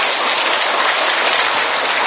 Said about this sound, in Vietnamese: Chúng ta tạ ơn Chúa và cảm ơn sự hiện diện ở của nhau. Một tràng pháo tay thật lớn thưa anh chị em.